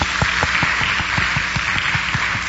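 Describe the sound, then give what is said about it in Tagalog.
A church audience applauds the Lord after a prayer, loudly and steadily, many hands clapping in a dense, continuous wash with a few sharper claps punching through at a quick, uneven rhythm. No one speaks over it. “Isang malakas na palakpak sa Panginoon.”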